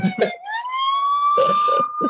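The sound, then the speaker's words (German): A police car siren wails in a single rising, sustained tone that holds steady at a high pitch as police arrive at a car someone tried to get into, while people talk over it in short bursts. “Ja, da kam die Polizei natürlich schneller als gehofft, sozusagen, als erwartet.”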